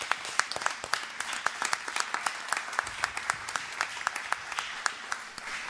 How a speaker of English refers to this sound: Let's give him a round of applause as he comes forward.